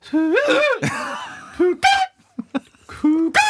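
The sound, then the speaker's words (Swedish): A recorder being overblown with too much air into squeaky, honking notes: several short bursts with wavering, jumping pitch, some sliding up shrilly, separated by brief pauses and fairly loud throughout. “Jo, det är när det kommer lite för mycket luft och det blir en ton, ett biljud.”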